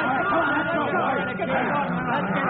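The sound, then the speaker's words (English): A crowd of rioting prisoners shouts all at once, a dense, steady roar of many overlapping voices with no single word standing out, holding the same loud level throughout. “The riot's begun.”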